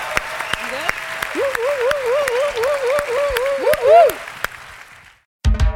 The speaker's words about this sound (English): Give a round of applause to Mayor Breed for joining us today for the news.